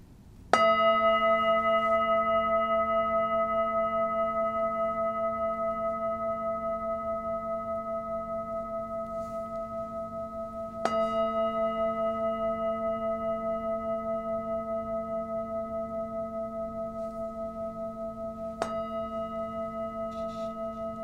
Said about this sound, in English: Or do you call it hitting it? Hitting it. Okay, the bowl. Here we go. Here's the sound.